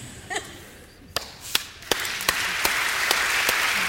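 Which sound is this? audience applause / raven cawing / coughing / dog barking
audience applause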